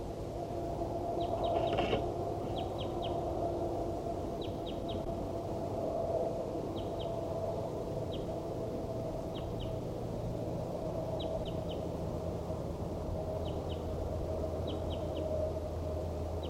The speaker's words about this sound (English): These are vocalizations of a wild bird. Band 4-7 responding.